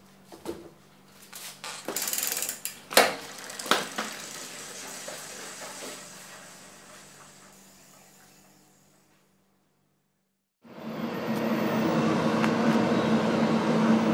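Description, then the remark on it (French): Clattering knocks and rattles fade out into a brief silence, then a motor kicks on and runs steadily with a loud, even whir and a low hum, no voices. “Tu entends le moteur là?”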